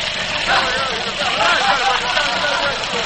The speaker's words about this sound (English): Brady King, wheeled a strange-looking contraption, something like a four-wheeled buggy, out of a machine shop, looked up and down the street, set his jaw grimly, cranked a four-cylinder engine in a reluctant life, got in, and chugged down the street.